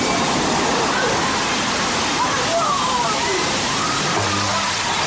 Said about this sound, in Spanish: A los 15 minutos, las olas impactaron la costa de Sumatra. Dos horas después lo hicieron en Tailandia, Sri Lanka y la India.